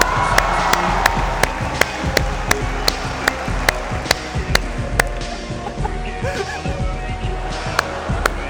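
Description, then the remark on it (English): An audience applauds a student steadily, a dense wash of many hands clapping with sharper individual claps cutting through at a quick, uneven rhythm, sustained at an even level throughout. “A big round of applause”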